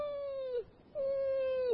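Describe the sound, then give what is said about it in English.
A voice imitates a dog whining outside a door at 5 a.m.: two drawn-out, fairly high nasal whines, each holding a steady pitch before dipping down at the end, separated by a short pause. “I opened the door and the dog was outside.”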